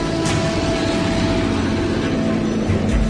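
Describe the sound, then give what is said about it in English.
A big vintage piston-engine tail-dragger warplane of Buffalo's fleet drones steadily, its loud, continuous low rumble carrying a thin sustained tone on top, with no voices and no break for the whole stretch. “Will a big, huge tail dragon piston pounder ever make it that far north again?”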